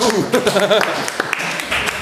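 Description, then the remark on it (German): A short burst of applause after two quiz contestants both answer a question correctly (the Vatican); dense and steady clapping lasting about two seconds, with voices speaking over it near the start. “Insofern bleibt ihr beide verschont. Applaus.”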